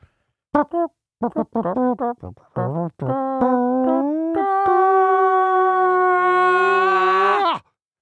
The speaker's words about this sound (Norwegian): Så vi begynner fanfaren. For dere som tar opp dette på kassett, så kan dere nå vente til fanfaren er over hvis dere, den irriterer dere, men vi kommer til å fortsette med den.